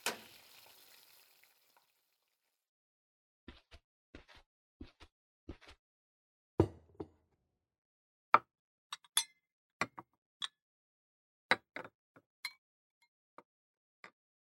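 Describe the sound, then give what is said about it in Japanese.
Food (fried shrimp, wakame miso soup and potato salad) being dished onto plates: a brief fading sizzle, then a scattered series of sharp clinks and taps of utensils against dishware, fairly crisp, with pauses between them and no talking. “お皿に盛るので、テーブルで待っていてください。”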